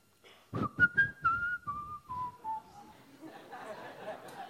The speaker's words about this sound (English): Now he wants to sing, or he wants to make very pleasing sound through the air that comes from his mouth. So there is one way to do it is to whistle.